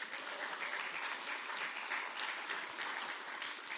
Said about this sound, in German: Jetzt müsst ihr klatschen.